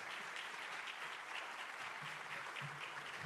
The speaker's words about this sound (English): Also, just let me recognize the great student performers. I'm going to read their names out again, and let's give them another hearty round of applause.